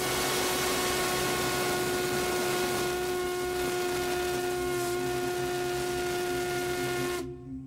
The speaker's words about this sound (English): Now, this is the Crosby whistle from the 1870s and 80s.